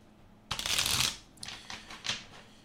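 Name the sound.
shuffling tarot cards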